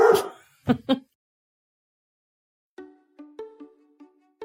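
A dog named Jack lets out three sharp barks, falls quiet for a moment, then breaks into a run of high, whiny yips and whimpers.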